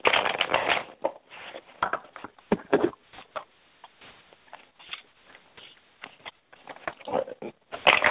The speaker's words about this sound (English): I'm just shuffling if you hear that noise.